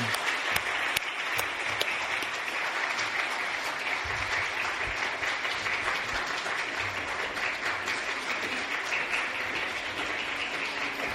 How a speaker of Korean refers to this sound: 자, 여러분, 다, 가운데 다 서 계실 때, 꽃다발 등장. 박수로 여러분, 축하해 주시기 바랍니다.